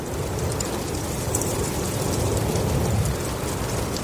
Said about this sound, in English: When I turned on that recorder and heard the sound of space open up for the first time, it's magical. The effect of breeze in the canopy of the redwoods.